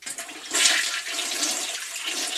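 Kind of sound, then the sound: household object, toilet flushing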